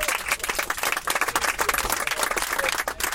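A crowd claps for a bus driver in dense, continuous applause, many hands overlapping into a bright crackling wash that stays at an even level throughout.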